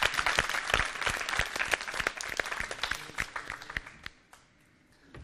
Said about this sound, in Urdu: ان کی حوصلہ افزائی کے لیے بھی زوردار تالیاں.